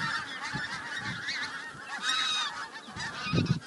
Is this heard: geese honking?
yes